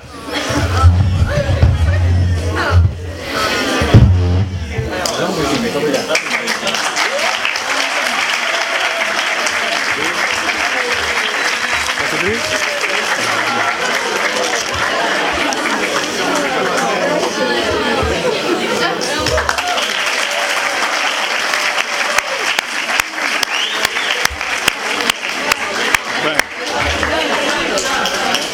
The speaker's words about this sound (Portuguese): Mais uma salva de palmas para o professor Viriato Cermenho Marques.